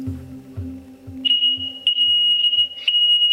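A loud, piercing smoke detector beeps in long shrill tones with brief gaps, starting a moment in, over a low steady hum and soft rhythmic thumps, with no one speaking.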